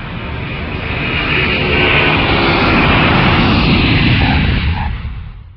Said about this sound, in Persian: چرخ‌های هواپیما که بر زمین سایدند، من از رویای خود بیرون شدم.